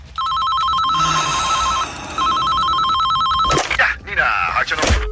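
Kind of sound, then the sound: household object, telephone bell ringing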